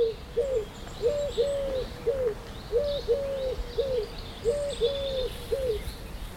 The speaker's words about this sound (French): C'est tourterelle ça. Tourterelle ça?